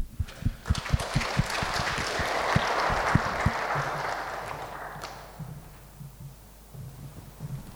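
A crowd claps in a dense, steady burst of applause for about five seconds, welcoming a seminary student intern at a church morning gathering, then it fades out quickly, leaving quiet with faint low rumbles.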